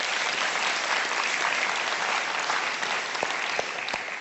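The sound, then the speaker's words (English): An audience claps to Jesus for his name, a dense, sustained burst of applause, steady and loud throughout, with a few sharper individual claps standing out near the end. “Can we clap to Jesus for that name?”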